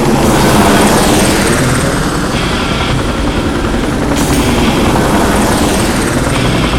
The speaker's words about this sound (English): The chopper's spotlight suddenly lit up the bread and butter like the sun. The chopper was 200 yards out, just above the waves, and throwing rooster tails of ocean in its rotor wing.